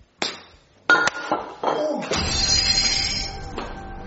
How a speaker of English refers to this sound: Oh, no, you broke the flower vase.